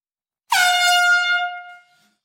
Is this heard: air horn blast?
yes